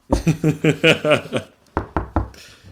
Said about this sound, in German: Klopfen?